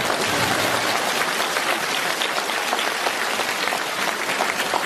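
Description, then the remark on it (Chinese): A crowd breaks into sustained applause, dense and steady clapping from many hands with no pauses, loud and even throughout, with no voices standing out. “想想现在小孩子考试的时候，叫他们填一个问答题，上面写着请问西安事变的主角是谁，小孩子居然填上张学友，鼓掌。”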